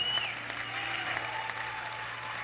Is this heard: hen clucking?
no